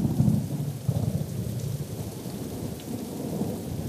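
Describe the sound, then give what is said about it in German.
A thunderstorm rumbles with deep, rolling thunder over a steady wash of rain, loud, with no voices present. “Aber wenn es Ihnen zu heiß ist, dann kann ich ja mal kurz ein Gewitter aufziehen lassen.”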